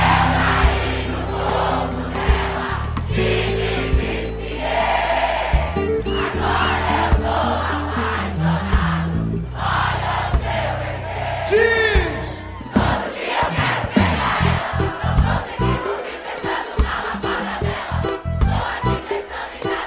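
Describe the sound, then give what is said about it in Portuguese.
A crowd yells and cheers loudly together in a sustained, dense roar, with overlapping voices rising and falling and sharp shouts breaking through toward the end. “Aquele gritão gostoso, vá.”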